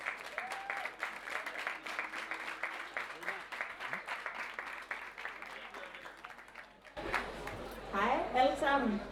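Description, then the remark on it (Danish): A live audience at Festugen in Aarhus claps in a dense, steady burst of applause for about seven seconds, then the clapping cuts off and a voice starts speaking. “Og det er optaget live, så du kommer nok til at høre nogle grin og nogle klap.”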